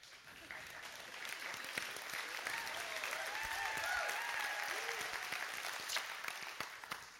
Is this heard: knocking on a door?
no